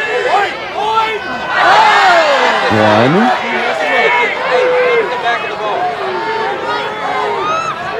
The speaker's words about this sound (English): So he tries to hit the ball, and his swing is so awkward, he cannot make contact with this ball. He swings like 5 to 10 times, making a bigger divot each time, and the crowd reaction is classic.